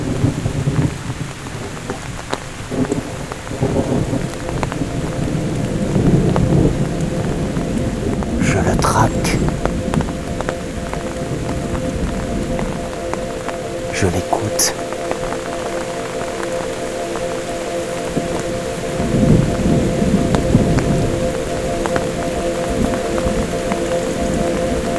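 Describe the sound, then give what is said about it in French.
Steady rain patters while low rumbles of thunder roll in and out as a light thunderstorm begins under a darkening sky, with a few sharper crackles and a man speaking quietly over the storm. “C'est la naissance d'un léger orage.”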